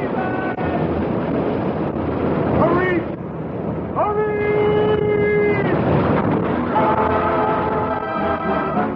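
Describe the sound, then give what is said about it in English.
A storm at sea on a dark, rainy night, heard aboard a ship bound around the Horn for England with breakers ahead, roars steadily, with rushing wind and breaking waves filling the whole clip while voices shout over the din. “Breakers! Breakers!”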